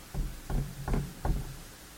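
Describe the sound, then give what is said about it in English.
Four steady knocks on a door, evenly spaced and fairly loud, each a dull thud with a short resonant tail, heard alone with no voices. “You know, you find him on the outside knocking.”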